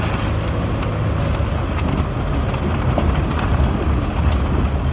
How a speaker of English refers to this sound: The car behind us is kind of scaring me how fast they're going. I know, they're going quick.